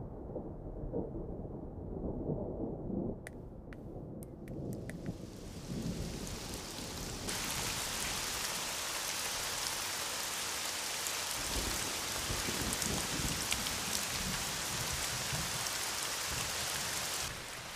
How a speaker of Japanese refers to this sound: 本格的に降ってきちゃったね。 これは花火は中止ですかね。